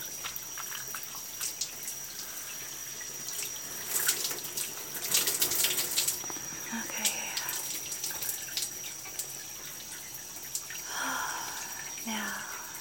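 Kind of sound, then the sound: household object, running water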